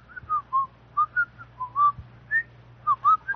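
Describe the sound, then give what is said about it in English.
Someone whistles a cheerful, bouncy tune of short, pitched notes that rise and fall in quick succession, clear, over a faint low background hum. “whistled very happily.”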